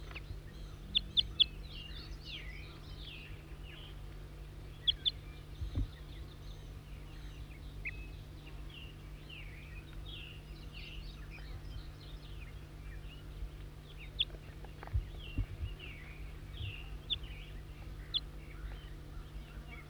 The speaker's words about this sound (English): Wild bird.